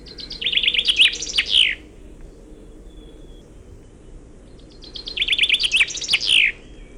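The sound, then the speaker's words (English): A songbird sings two bright, rapid trilling phrases several seconds apart, each closing with a distinct Wallonian-song flourish rather than a suskevit ending, heard over a low, steady background rumble. “That's right, that little bit at the end is totally different, and it's definitely not a suskevit. Finconeers call this a Walserzang, or in English, a Wallonian song, or a French song.”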